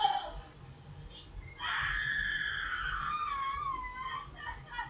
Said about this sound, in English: That was … yelling, if you got that in the background. See how good my mic, headphone mic picks up.